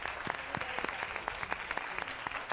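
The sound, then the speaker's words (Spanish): An audience applauds the two quiz teams, a dense patter of many hands clapping at a steady, moderate level with sharp individual claps popping out of the wash, and no voices on top. “Bueno, pues no hemos podido anotar 3 puntos, pero les damos un aplauso a los dos equipos.”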